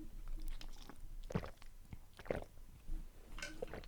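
drinking water

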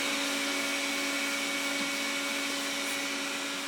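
vacuum cleaner running

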